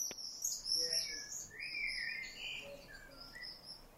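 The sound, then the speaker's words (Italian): Thin, high-pitched screeching calls of common swifts, several overlapping streaks drifting across a faint, hissy outdoor background, quiet with no voices. “Eccolo qua, credo che sia un rondone lui, giusto?”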